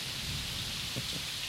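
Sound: thunder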